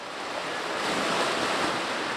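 A big splash into a pool, heard up close as a loud, sustained rush of churning water that swells midway and keeps roaring to the end. No voices.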